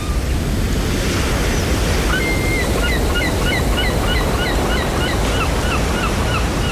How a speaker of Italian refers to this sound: Sono arrivato al punto che mi piacerebbe pensare che sia in arrivo una tempesta, ma c'è solo un po' di mare mosso, il cielo è scuro, nuvole minacciose all'orizzonte.